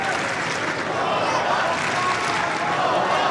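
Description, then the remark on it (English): A tennis crowd at a Djokovic–Cerundolo match cheers and claps steadily, a dense, loud wash of applause with mixed voices that holds at an even level for the whole stretch. “Here comes that crowd involvement.”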